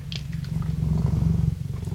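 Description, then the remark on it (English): A cat, Morrissey, purrs steadily in a low, rumbling drone with a fast pulsing texture, holding fairly loud and even for the whole two seconds with no talking, on CFRC 101.9 FM radio in Kingston, Ontario. “Hi, I'm DJ Squared, and you're with me and my cat, Morrissey, the good-looking and pleasant to be around.”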